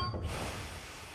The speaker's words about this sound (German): Auf einmal bremst der Zug und bleibt stehen.